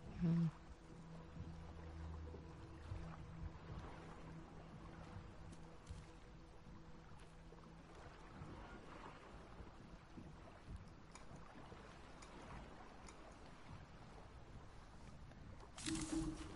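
A boat moves steadily through water, with a continuous rush of water and wind and a low droning hum beneath it for much of the time, even in loudness.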